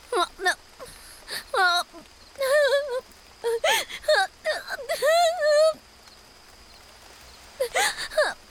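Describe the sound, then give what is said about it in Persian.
High, wavering whimpers and sobbing cries come in short bursts with pauses between, with a steady faint hiss underneath and a quiet gap before a final cry. “گریه نکن عزیزم.”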